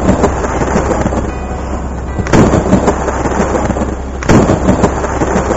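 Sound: thunderstorm with thunder claps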